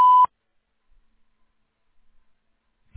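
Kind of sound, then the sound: signal or alarm, voicemail recording beep tone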